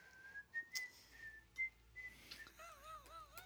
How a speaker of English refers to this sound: Well, I'm just whistling.